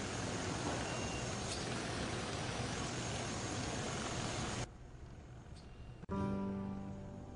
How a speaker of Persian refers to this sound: ماشین های مشکی تشییع جنازه به طرف گورستان میرند.